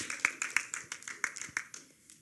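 A short burst of applause: crisp, fairly rhythmic hand claps, about nine of them in quick succession, tapering off and growing fainter toward the end, with no clear talking over them.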